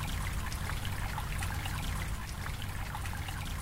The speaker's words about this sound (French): On est au bord de la zone humide. Donc on a toujours le ruisseau du Dévora qui passe ici.